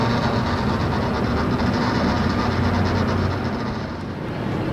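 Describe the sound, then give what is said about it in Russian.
A Phalanx Mark 15 rotary naval cannon, a 20-millimetre six-barrel Gatling-type gun that rotates 360 degrees and defends ships against cruise missiles, fires in one sustained, loud burst, a dense mechanical roar with a rapid buzzing rattle and a low droning hum running through it, with no pauses and no voices. “Ну, в общем-то, никакой это не вулкан, а пушка под названием Phalanx Mark 15, предназначена для борьбы с крылатыми ракетами, подлетающими.”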